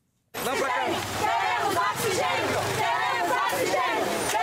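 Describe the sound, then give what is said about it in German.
A protesting crowd of patients' relatives chants and shouts in unison, demanding oxygen, in front of the largest hospital in Manaus, Brazil: a loud, dense wall of many overlapping voices that starts abruptly and continues steadily throughout, with rhythmic rises in the chant. “Wir wollen Sauerstoff, rufen Angehörige von Patienten vor dem größten Krankenhaus von Manaus.”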